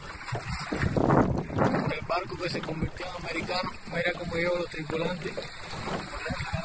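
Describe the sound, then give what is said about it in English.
In a New York Times video, a boat motors across clear blue open water on a sunny day, its steady engine drone mixed with gusty wind buffeting the microphone, while muffled voices of the men aboard documenting their trip talk underneath throughout. “There's this New York Times video we found of these guys on a boat documenting their trip”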